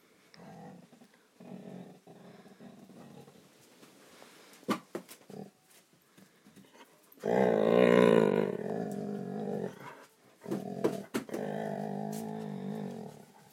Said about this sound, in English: It's a dog. Telling me it's somebody at the door. It's just my mum and nephew.